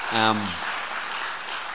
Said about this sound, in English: I think you should give them another round of applause, because it was really, really great.